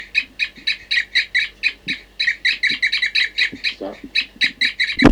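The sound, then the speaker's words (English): Captive birds 40 and 06 give a long, steady series of repeated high tooping calls in response to calling and to bird 4-3 in the next cage, about three or four per second, loud and regular, with a few soft low thumps underneath. “We're calling now 40 and 06 are tooping in response, I think, to 4-3 in the next cage.”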